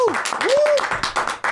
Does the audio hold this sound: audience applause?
yes